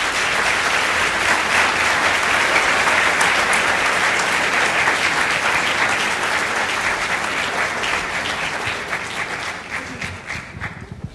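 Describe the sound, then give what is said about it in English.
Loud, dense applause from an audience for debaters coming down to the floor, a steady wash of many hands clapping that holds for several seconds and then gradually thins out and fades toward the end. “And just now, as our debaters are coming down to the floor, I just want to give them a round of applause for coming all this way.”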